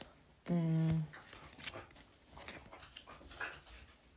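A dog gives one loud, drawn-out bark or whining yelp lasting about half a second, followed by quieter rustling and faint background activity.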